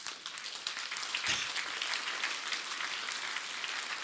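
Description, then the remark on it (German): A crowd applauds steadily, dense overlapping claps forming a continuous wash of noise with no voices, holding at an even level throughout. “Das sind Sie eben Bürger, jetzt bekomme ich hier einen Applaus.”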